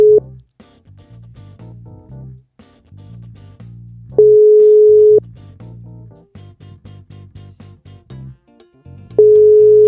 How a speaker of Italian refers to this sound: Vabbè, dai, vai, io la chiamo. Chiamala. Squilla. Ci risponderà?